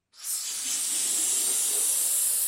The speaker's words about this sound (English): inflates a latex balloon with an increasingly precious gas. Helium supplies are so tight, he stopped renting tanks to his customers for parties.